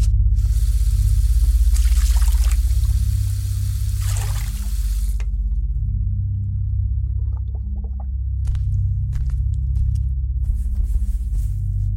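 A bathroom sink faucet runs for a few seconds, then shuts off, followed by scattered wet splashes and drips as someone splashes water on their face, over a steady low background hum. No one speaks.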